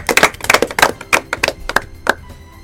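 A small group applauds a correct quiz answer with brief, scattered handclaps, sharp, overlapping irregularly for about two seconds before thinning out and stopping. No one speaks.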